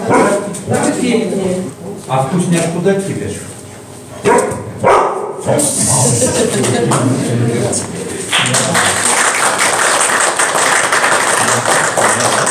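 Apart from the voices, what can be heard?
dog barking on command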